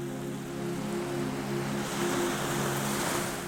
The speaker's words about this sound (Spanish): El sonido del mar se vuelve más cercano, más envolvente. Las olas que golpean suavemente las rocas de la base del acantilado suenan como una respiración lenta y profunda que se mezcla